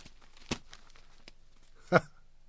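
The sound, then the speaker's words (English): The pages of an evening newspaper rustle and crinkle as they are opened and handled, with two sharper crackling bursts standing out against a soft, steady shuffle. “Where's that evening paper? Let's have a look while her warped, whiskey-soaked energy dissipates.”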